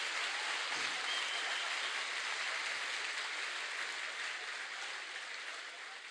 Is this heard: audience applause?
yes